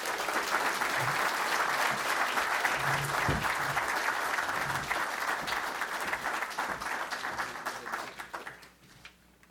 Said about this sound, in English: Would you welcome with your applause His Excellency Minister Naimi?